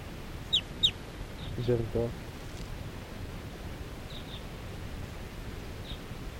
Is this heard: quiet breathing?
no